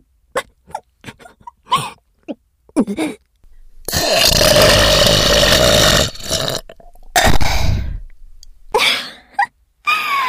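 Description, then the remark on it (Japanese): Short breathy bursts like stifled laughter lead into a loud, drawn-out burp from a woman who laughed too hard, lasting a couple of seconds, followed by another rough belch and a few quick breaths. “笑いすぎてゲップ出ちゃったら。”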